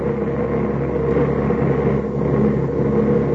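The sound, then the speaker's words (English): The steady, droning engine of a passenger plane flying from Baskul toward Peshawar hums continuously in flight, a low rumbling tone with a constant level and no breaks, and no voices. “Our plane should have landed in Peshawar at about 5:30.”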